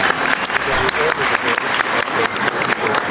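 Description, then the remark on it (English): An audience applauds the passing of the 21st century telecommunications bill, a dense, continuous patter of many hands clapping at an even, fairly loud level for about three seconds, with no clear voices above it. “I think, let's give them a round of applause for that particular bill.”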